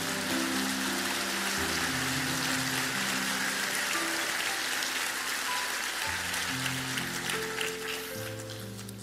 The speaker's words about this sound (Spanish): Alguien diga amén. Un aplauso al Señor fuerte.